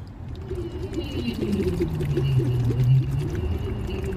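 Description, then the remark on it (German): Steady bubbling as air is blown through water in a bottle as a voice exercise, with a low voiced hum underneath that glides slowly in pitch, lasting about four seconds with no talking. “dass ich da reinblubbern kann und dann hören wir gleich, wie sich das anhört, wenn ich reinblubber und wie sich das anhört, wenn ich fertig geblubbert habe.”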